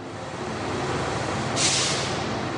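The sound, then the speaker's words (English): A large bus carrying 40 teens idles with a steady low rumble, then a sharp burst of air-brake hiss rises briefly as it comes to rest and parks outside the Universidad Católica football club, fairly loud. “A bus of 40 teens arrives and parks outside the football club.”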